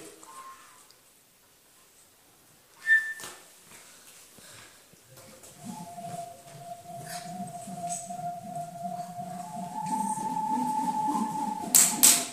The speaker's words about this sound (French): Le vent souffle.